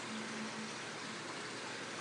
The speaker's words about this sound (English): The water sound you're hearing is not the rain. That is our little waterfall on our pool.